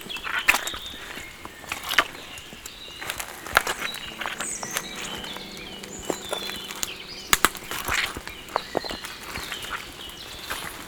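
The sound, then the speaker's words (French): Twigs and branches crunch and snap under footsteps in a dense forest with greasy soil, in an irregular series of sharp, dry cracks, with a few louder snaps standing out over a soft, steady background hum. “Cette forêt croustille.”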